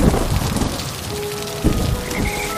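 Steady, hissing rain pours down on a stormy night in a dark forest while low rumbles of thunder roll underneath, swelling in a couple of heavier bursts; a few faint thin tones float above the downpour.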